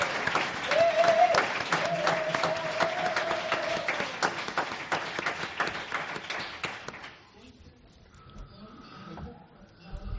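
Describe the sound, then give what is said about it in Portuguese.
A crowd applauds loudly and steadily for about seven seconds, with a brief whoop or voice rising over the clapping, before the applause fades out and the room goes quiet. “E também uma salva de palmas para os que não estão ouvindo em função de estarem confinados num habitáculo”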